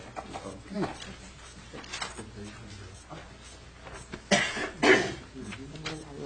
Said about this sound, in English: I knew I shouldn't have sat in front of that person that was coughing for an hour yesterday. Oh, it's just a tickle in my throat, that person said.